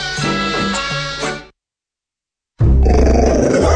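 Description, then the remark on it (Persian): A two-year-old pit bull growls in two bursts: a rumbling, throaty growl for about a second and a half, a brief silence, then a louder, harsher snarling growl. “ببخشید جناب، نژاد سگتون چیه؟ پیت بول.”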